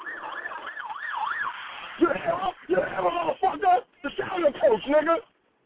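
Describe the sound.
An emergency vehicle siren wails in quick, regular rising-and-falling cycles for about two seconds, fairly clear, then stops as a man starts talking over faint background noise.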